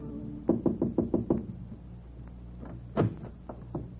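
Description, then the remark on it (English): A quick run of about six firm knocks on the door of a midtown hotel suite, evenly spaced, followed after a pause by a few more scattered, softer raps and one heavier thud. No voices. “he lived in a midtown hotel suite all by himself, and one afternoon she moseyed up there and knocked on his door.”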